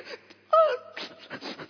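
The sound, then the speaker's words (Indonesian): A single voice imitates sobbing, the weeping of a woman at the feet of Jesus: a short wavering wail breaks out, then trails into several breathy, shuddering sobs that gradually soften. “Bahasa yang keluar bukan kata-kata yang indah, tapi kalau kita mencoba membahasakannya, kalau dengan tangisan, kita mungkin cuma akan mendengar di bawah kaki Yesus terisak-isak.”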